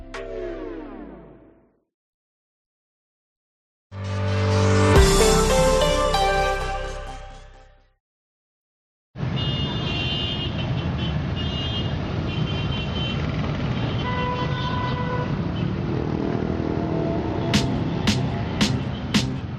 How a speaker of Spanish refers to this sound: Bueno, eso que acabas de escuchar sí es sonido de tráfico, podría ser de cualquier gran ciudad del mundo, pero mira, este en concreto es un día cualquiera en el centro de Yakarta, la capital de Indonesia, que tiene 30 millones de habitantes